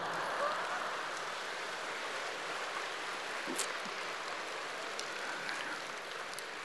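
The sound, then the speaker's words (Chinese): A crowd applauds steadily for several seconds, a dense, even wash of clapping with no voices heard over it. “掌声不够热烈，下面那个就不讲了。”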